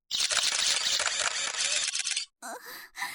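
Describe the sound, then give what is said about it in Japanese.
A dense, overlapping barrage of camera shutter clicks from many cameras surrounding a person at a cosplay event, rapid and continuous for about two seconds, then a brief pause followed by a few scattered clicks. “たくさんのカメラに囲まれて聞くシャッター音、正直快感です。”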